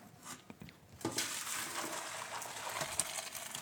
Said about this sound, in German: Die Nudeln sind gut. Sehr gut. Ich gieße die mal ab. Naja, sie waren ja eben schon fast gut.